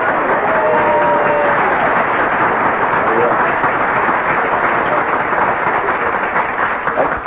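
A large audience claps steadily for several seconds, a dense, loud wash of applause that holds at an even level throughout, with a few faint voices mixed into the clapping.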